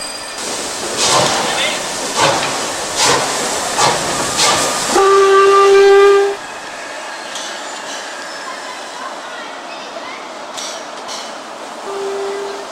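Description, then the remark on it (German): A steam passenger train with wagons of CARE packages chuffs into Freiburg station shortly after 7 p.m. with rhythmic, hissing puffs, then lets out a loud, steady whistle blast; after a stretch of hissing, a shorter whistle sounds near the end. “Um kurz nach 19 Uhr fuhr der Zug im Freiburger Bahnhof ein.”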